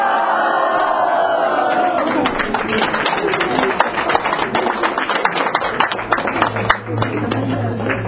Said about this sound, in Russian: Давайте крикнем все ура. Давайте. Ура!